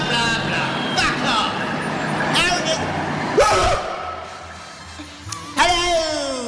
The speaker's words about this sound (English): But I hear the sound of a van coming. Yeah? Out of the fucking way! It's my right of way! Oh, fucking school bus!